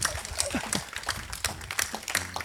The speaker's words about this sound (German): Danke für den Applaus.